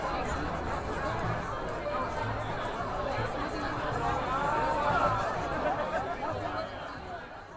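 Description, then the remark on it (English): Dense crowd chatter fills the newly opened media center at Wallace Annenberg Hall after a ribbon cutting, as the crowd pours in among students working on deadline; many overlapping voices blend into a steady hubbub with occasional laughter rising from the murmur. “The crowd then excitedly poured into the new media center among students working on deadline.”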